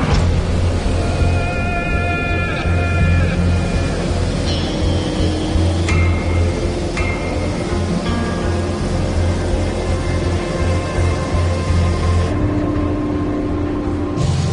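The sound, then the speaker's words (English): The 18-cylinder engine of one of Buffalo's 65-year-old C-46 aircraft runs steadily at reduced power while being tested, a loud, constant droning rumble with a deep harmonic hum and some higher whining tones, unbroken for the whole stretch with no voices. “Right now, we're just running out of reduced power setting, and it seems to be running pretty good.”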